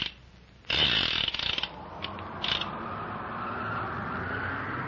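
A car engine suddenly roars to life with a loud, rattling rev, then settles into a steady mechanical drone that keeps running without fading as the car drives to the foot of a volcano. No one speaks.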